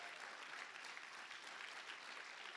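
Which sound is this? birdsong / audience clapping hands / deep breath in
audience clapping hands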